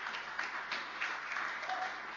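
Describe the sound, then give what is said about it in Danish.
A crowd applauds a worship band steadily, a dense wash of many hands clapping at an even, moderate loudness with no talking over it. “Jeg kan godt give lovsangsgruppen en rimelig stor håndhold op og rette fed lovsang.”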